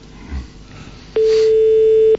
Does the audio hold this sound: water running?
no